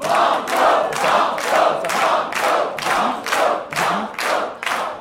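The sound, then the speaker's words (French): A studio audience at a quiz game chants "on continue" loudly in unison, voices rising and falling in a steady rhythm of roughly two beats per second, with no one speaking over them. “Mais la foule m'a dit, on continue.”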